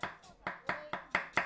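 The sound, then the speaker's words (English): Quick, steady chopping of vegetables with a knife on a board: about seven sharp strikes in a brisk even rhythm, each a crisp knock. No one speaks. “You hear some people chopping, tired after a whole day.”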